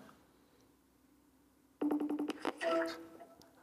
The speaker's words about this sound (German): Schauen wir mal, ob er jetzt ans Telefon geht. Okay. Ja, ruf mal an. Dann schauen wir mal.